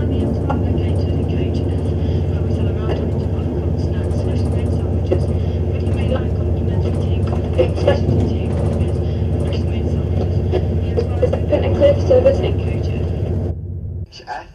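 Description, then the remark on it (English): Steady low rumble inside a moving passenger train on a Middle and Main Line service, with continuous rolling drone and occasional clanks and rattles, muffled voices underneath, until the noise drops away abruptly at the end. “And please refrain from smoking in any part of this train, as this does include the toilets and vestibule ends.”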